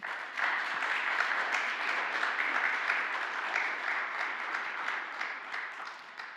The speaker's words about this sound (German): Das waren unsere Jugendlichen und Erwachsenen mit unserem Krippenspiel für dieses Jahr. Und ich denke mal, das quittieren wir mit einem kräftigen Applaus.